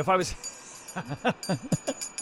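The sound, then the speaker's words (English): A charity hand bell rung beside a donation kettle by a bell ringer in a Santa hat rings in a quick, uneven series of shakes, its bright metallic tone lingering between strikes, with a brief voice-like sound at the start. “I'm ringing a bell, all right.”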